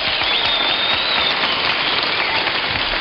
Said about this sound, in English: Well, that nice round of applause will sure get the job done there